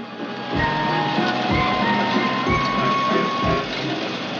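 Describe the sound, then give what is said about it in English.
A fairground waltzer ride whirs into motion as the operator releases the brake, its loud mechanical rumble marked by steady thumps about once a second, with faint tinny musical tones running underneath; a car is raised high into the air and spins eccentrically. “The ride's operator releases the brake and the waltzer starts to move.”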